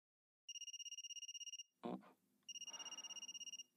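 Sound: mobile phone ringing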